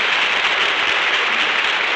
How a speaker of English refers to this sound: That applause goes from coast to coast.